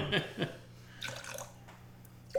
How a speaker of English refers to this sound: And then you top it with the ginger beer. And how much ginger beer do you have there? 2 ounces of ginger beer.